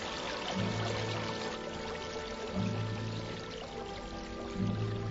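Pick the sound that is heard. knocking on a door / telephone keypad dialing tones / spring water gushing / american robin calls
spring water gushing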